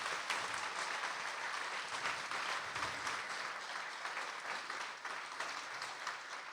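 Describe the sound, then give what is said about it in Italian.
Steady audience applause fills the whole stretch, a dense crackle of many hands clapping at an even, fairly loud level with no voices rising above it. “Devo applaudire anch'io.”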